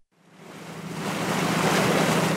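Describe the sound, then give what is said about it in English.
A steady rush of open-sea water and wind around an old wooden dhow boat under way in the Strait of Hormuz, swelling quickly from quiet to a loud, continuous wash of spray and surf with no voices. “I'm on a dhow, an old dhow boat in the Strait of Hormuz.”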